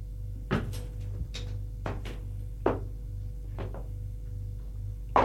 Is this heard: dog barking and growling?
no